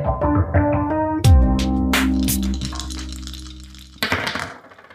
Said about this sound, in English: And that's the dice is rolling in the jingle.